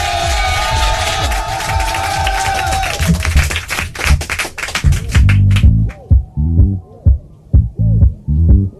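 A crowd breaks into loud applause and cheering for a performer, thinning out to scattered claps after a few seconds, then music with a steady beat starts up.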